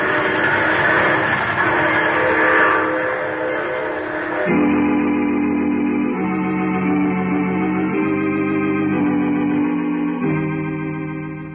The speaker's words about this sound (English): Oh, you're getting off here. Well, I'm sorry. But I'm sure we'll meet again. I take this same train every week at this same time.